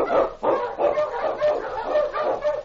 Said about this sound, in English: On, you huskies! The Wonder Dog King, swiftest and strongest of Eskimo League dogs, blazes the trail through storm and snow for Sergeant Preston as he meets the Challenge of Yukon.